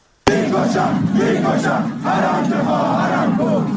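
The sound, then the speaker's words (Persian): A large crowd gathered in Fouladshahr, Isfahan, Iran, for the fortieth-day memorial of Mahsa Moguyi chants loudly and continuously, many voices blending into a dense, rhythmic roar with rising and falling shouts, starting abruptly after a brief silence. “در فولادشهر اصفهان جمعیتی انبوه در مراسم 40 مهسا موگویی گرد آمده بودند.”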